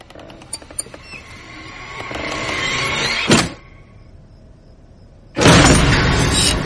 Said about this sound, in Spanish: ¡Pam! La puerta se abrió de golpe y se paró.